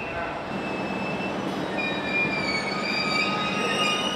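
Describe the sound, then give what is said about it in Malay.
A train carriage carrying migrants, mostly from Somalia and Eritrea, rolls steadily along the rails with a continuous broad rumble, while thin high-pitched metallic squeals from the wheels drift in and out over the noise. “Mereka tidak memiliki apa-apa dan disertai rasa cemas berjalan mencari tempat duduk mereka di dalam gerbong kereta.”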